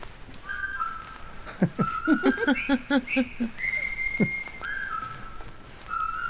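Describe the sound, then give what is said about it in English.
A clear, loud whistled tune, a well-known march played from a flexi-disc postcard, carries a bouncy melody with held notes and quick rhythmic runs over a steady hiss, backed by soft drum-like thumps. “Quite a well-known tune. So it turns out that rifle is a whistle.”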